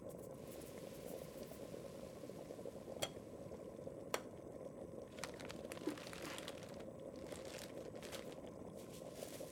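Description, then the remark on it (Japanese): A pot of water for cooking pasta at a steady rolling boil, dense bubbling and churning filling the low and mid range, with a few sharp clicks and pops breaking through now and then. No voices. “あ、沸騰した。”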